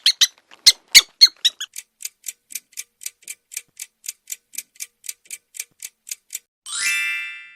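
A rapid, steady series of tiny high-pitched mouse squeaks, about two dozen in a row, ends with a longer, louder squeal. Clear, with no voices.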